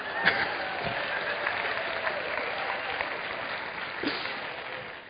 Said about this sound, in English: Somehow I feel that's the parents clapping and not the children. Although there probably were some children in there.